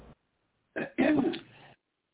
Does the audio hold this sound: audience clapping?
no